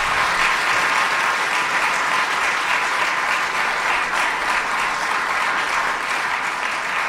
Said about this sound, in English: This would be a great time to give our two candidates for Kansas City Mayor a big round of applause for a very thoughtful conversation.